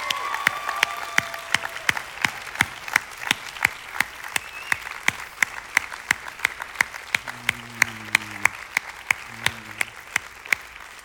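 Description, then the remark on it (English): An audience applauds the fathers present for about eleven seconds: a dense wash of clapping with a steady, sharp clap beat cutting through it roughly three times a second, holding an even loudness throughout. “So ladies and sons and daughters and everyone else that doesn't fit or wear a father's hat, would you just take a minute to applaud the fathers in the house?”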